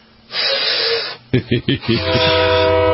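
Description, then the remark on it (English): A person imitates a train whistle with their voice: a breathy hiss, then a series of short rhythmic pulses leading into a sustained, harmonic whistle-like tone, loud. “Is this a whistle?”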